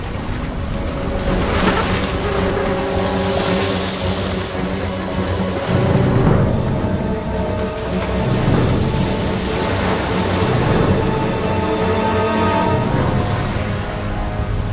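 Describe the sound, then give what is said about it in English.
Ocean waves roar and break in heavy, rolling surges, where a southern sea lion uses a breaking wave to chase gentoo penguins. The loudest crashes swell midway through, beneath a steady layer of sustained musical tones, with no voices. “It uses the speed of a breaking wave to catch up with the gentoos.”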